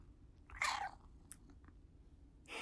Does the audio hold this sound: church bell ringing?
no